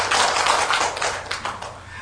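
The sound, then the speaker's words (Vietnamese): An audience at Hải Đức pagoda claps steadily for about two seconds in praise of their own merit, a dense wash of many overlapping hand claps at a fairly even loudness, tapering slightly toward the end. “Vậy thì xin cho một đoàn pháo tay tán thưởng, tán dương công đức của quý vị.”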